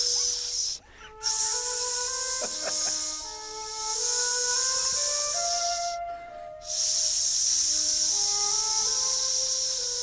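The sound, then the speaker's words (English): A person makes a long, sustained snake-like hiss with the voice, imitating asps, pausing briefly twice for breath, while faint tonal notes drift underneath. “Just a general ambience of hissing.”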